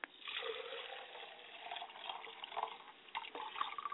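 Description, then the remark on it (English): Running water splashes steadily, with shifting gurgles and small surges as hands and face are washed before pouring libation, no voices. “Before I pour libation, I wash my hands and face.”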